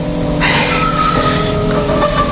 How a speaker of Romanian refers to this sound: Mișto tren.